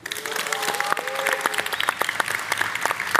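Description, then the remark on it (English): A crowd claps steadily in a dense burst of applause, mixed with a few cheers and whoops rising above the clapping, lively throughout, as a Samsung Display executive is introduced on a conference panel. “has his own cheering section, all right.”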